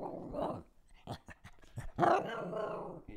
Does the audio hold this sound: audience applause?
no